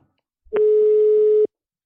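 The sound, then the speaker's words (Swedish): A single steady telephone ringing tone sounds for about a second, clear and fairly loud, with no voices around it, like an outgoing call ringing on the line. “Nu ringer vi Serafia.”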